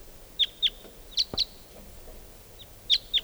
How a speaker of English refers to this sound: Both decoys are calling now. One of the wild birds must be coming in or calling.